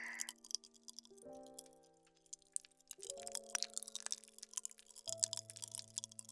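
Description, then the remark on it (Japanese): Rapid, irregular crackling and popping as apple-flavoured popping candy fizzes while being chewed in a mouth, continuous over soft sustained background tones that shift chords a few times. No one speaks. “ほんとだ、口の中でパチパチ弾けてる。”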